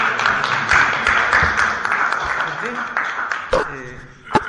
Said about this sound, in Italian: Bene, io direi di fare un applauso.